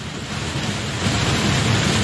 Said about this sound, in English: Hang on, the rain is getting a little loud.